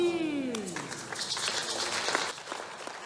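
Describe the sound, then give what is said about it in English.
A church audience claps for the Lord during a sermon, together in a steady, dense burst of applause that lasts a few seconds at an even volume. A trailing vocal tone slides downward at the very start. “Give the Lord a better clap of.”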